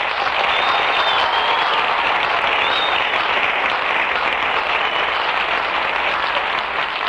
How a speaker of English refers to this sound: Never mind the applause, ladies and gentlemen. I'm not here to entertain you.